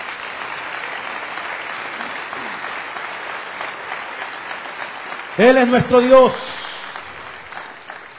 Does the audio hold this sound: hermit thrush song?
no